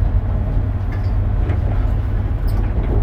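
Steady, loud low rumble of a Shinkansen bullet train heard from inside a carriage as it approaches its terminal stop, Tokyo; a continuous droning roar with faint rattles and creaks over it and no voices.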